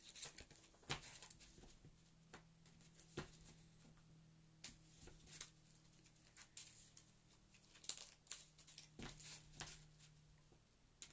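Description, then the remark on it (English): Quiet shuffling of a deck of game cards, shuffling in a Mythos card before drawing one: soft papery flicks and irregular taps over several seconds, with a faint low drone humming steadily in the background as a police helicopter passes overhead in Bristol. “I'm just going to shuffle it in first.”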